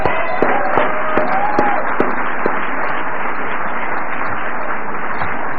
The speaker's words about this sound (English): Every conflict that America's been in, we've been there with you. And I was thinking about that today. I think that deserves a clap if nothing else does.